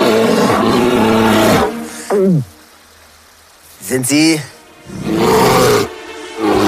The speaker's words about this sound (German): Vor ihm baut sich plötzlich ein riesiger Bär drohend auf seinen Hintertatzen auf.